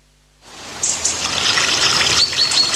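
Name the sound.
flowing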